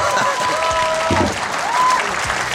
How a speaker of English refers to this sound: Ooh, 1 minute. Oh, come on, big round of applause.